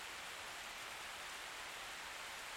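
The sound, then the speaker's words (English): A steady hiss of heavy storm rain, dense and unbroken, spread across the high end with a soft low rumble beneath and no voices. “The storm is getting worse by the second.”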